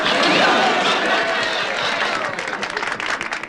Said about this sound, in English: What are they applauding for?